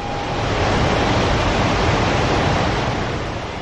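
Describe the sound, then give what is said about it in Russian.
Loud, continuous churning water, a heavy rushing surge that swells in quickly and roars steadily for a few seconds as a river overflows its banks after someone leaps into it from a large kadamba tree. No voices. “Река тут же вышла из берегов, словно в нее упало что-то очень большое и тяжелое.”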